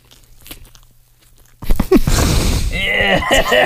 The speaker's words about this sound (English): Wait, just if we can be quiet for a second and just listen to him chew. It just the sound of him chewing the peeps are so gross. Listen.